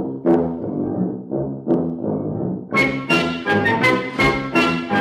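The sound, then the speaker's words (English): Low, buzzy brass notes of the big bass tuba of the wooden soldiers' band tuning up sound in short swelling phrases, then a brighter, fuller burst of brass chords joins in with sharp, punchy attacks. “And now, let's listen to the big bass tuba tuning up.”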